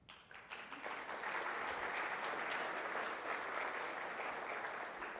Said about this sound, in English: We also have two honorable mentions, and if I could ask the co-authors of those papers to stand up for some applause rather than coming up to the podium.